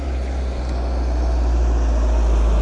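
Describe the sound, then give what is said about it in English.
A heavy vehicle's low engine rumble rolls steadily outside, a deep continuous drone with broad road noise above it and no voices. “I just thought it might be them just now, but it's a truck.”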